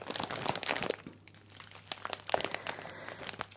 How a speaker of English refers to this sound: And I remember at the time the bag was really tingly and crunchy and nice. It actually smells really nice as well, soy flakes.